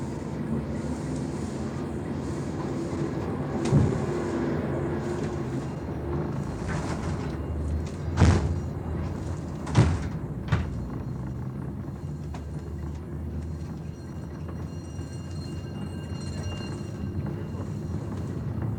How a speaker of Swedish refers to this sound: Den startar. Man hör lite dörrsmällar, man hör lite, jag tror det är rattlande fönster. Fönster som står skramlande, det rör sig lite grann då, tror jag det vi hör.